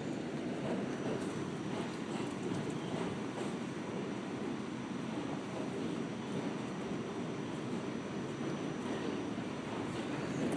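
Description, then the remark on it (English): Steady, continuous rumble of a train rolling slowly along the rails into a station, heard from on board, a broad low roar with faint rattling on top, even in loudness throughout, with no talking. “Of course, this is when the train chooses the super slow way to roll into the station.”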